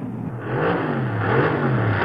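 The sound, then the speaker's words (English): A car engine revs and accelerates, its pitch rising and wavering in a steady, loud drone that fills the short stretch with no one talking. “driving too fast.”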